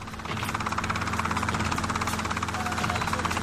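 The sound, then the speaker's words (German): A helicopter carrying Kommandante Ramirez high above drones steadily with a rapid, pulsing rotor chop and a low engine rumble, loud and continuous throughout with no voices. “Hoch darüber Kommandante Ramirez im Helikopter.”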